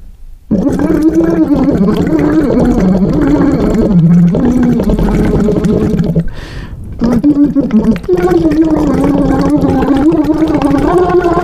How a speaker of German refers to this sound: Das war übrigens ein Blubberschlauch, der aus der Stimmtherapie kommt. Lavox. Lavox, heißt es Lavox? Laxvox. Laxvox? Laxvox.